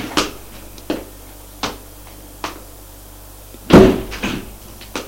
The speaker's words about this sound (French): Elle va ouvrir la porte de l'appartement de droite.